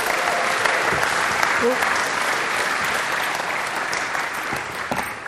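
A crowd applauds steadily, a dense, even wash of clapping with scattered cheers mixed in, holding at a strong level for several seconds before easing slightly toward the end.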